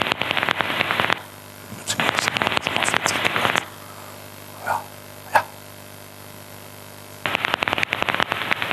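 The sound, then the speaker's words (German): Daubenton's bat calls, including social calls, through a heterodyne bat detector: three bursts of rapid, dry crackling clicks over a steady electrical hum, separated by a quieter hissy stretch with two brief faint blips. “So würde es sich im Heterodyn-Detektor, also in dem normalen Fledermaus-Detektor anhören, wenn ich eine Wasserfledermaus höre.”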